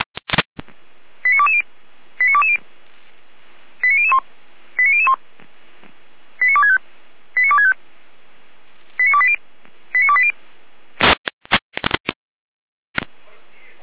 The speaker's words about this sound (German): Hier ein Alarmruf.